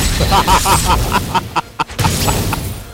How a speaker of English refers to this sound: I click on the happy cloud. It smiles and drops loot. Lovely presents that make firework sounds. Oh, loot.